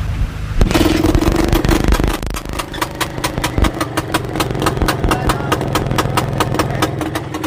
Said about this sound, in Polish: Proszę bardzo, zapaliła z pierwszego, no bo to jest WSK.